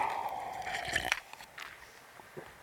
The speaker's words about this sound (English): I'm going to hit a little water today.